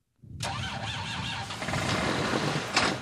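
A tractor engine turns over and catches, then settles into a loud, rough, steady rumble, with a brief surge near the end. Close by, with no voices.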